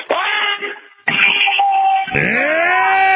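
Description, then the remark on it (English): A radio caller imitates the Alex Jones battle scream: a man lets out a loud, shouted scream in three long, strained bursts, each harsh and wavering in pitch, with brief breaths between and no other talk. “I'm going to do the Alex Jones battle scream.”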